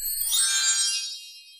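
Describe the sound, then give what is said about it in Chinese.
A bright, tinkling chime rings out once, a shimmer of high bell tones that swell quickly and then fade away gently over about a second, with no talking. It is a storybook page-turn signal, telling listeners to turn to the next page. “这个声音，要翻到下一页哦。”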